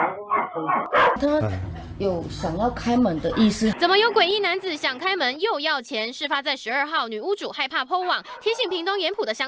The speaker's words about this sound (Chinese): 陌生人闯进家门，狗狗疯狂吼叫。